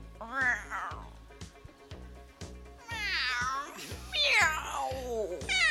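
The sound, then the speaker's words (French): A person imitates a loud cat meow, drawing out several long, wavering mewls with rising and falling pitch over a steady, rhythmic background beat. “Un gros miaulement de chat.”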